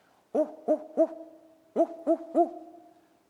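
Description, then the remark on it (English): People imitate monkey calls to talk to the monkeys, in a forest opening under tree canopies about 60 or 70 feet high, with two bursts of three short, rising-and-falling hoots each, mid-pitched and fairly loud, separated by a brief pause. “And soon enough, here comes one monkey, and then a couple more, and back and forth, we are going, woo, woo, woo, woo, and the monkeys are calling down to us.”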